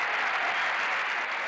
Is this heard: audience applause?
yes